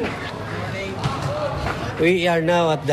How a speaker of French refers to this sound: Donc on entre dans la prison. Le gardien ouvre la porte et on arrive à côté de la cour où jouent les prisonniers.